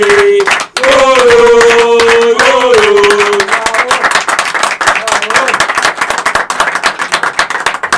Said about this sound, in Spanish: Listo, así que un gran aplauso para Fernando Godoy.